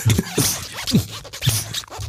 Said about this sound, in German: das war nur der Reißverschluss meiner Fließjacke